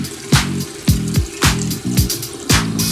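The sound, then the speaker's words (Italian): A drink gurgles loudly in a steady run of glugging bursts, roughly twice a second, with bubbly draining pulses like a toilet flush. No one speaks. “Sembra uno sciacquone, però è il drink.”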